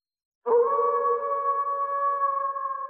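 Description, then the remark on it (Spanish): A wolf howls once in a long, steady, sustained tone that begins after a brief silence and holds at full strength to the end, clear with no voices. “hasta que un lobo se cruzó en su camino.”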